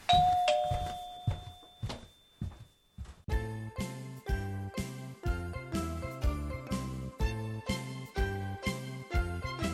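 A doorbell chimes clearly at the start, two bright ringing tones that fade out, followed by a pause and then steady rhythmic music playing for the rest.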